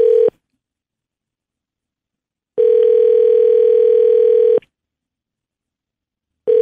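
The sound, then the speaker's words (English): A steady, mid-pitched telephone tone sounds while a call is placed to the owner of an El Camino show car, coming in loud two-second bursts separated by roughly four seconds of silence, with no voices. “All right, hold on. We're calling the owner of the El Camino.”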